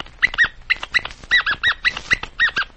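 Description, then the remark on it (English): A voice imitates puppy dog talk as Popcorn, repeating the poem 'Roses are red and violets are blue' after the host, with a quick, uneven string of about a dozen high-pitched squeaky yips and whimpers, fairly loud, with no other speech. “since you boys and girls can't understand puppy dog talk”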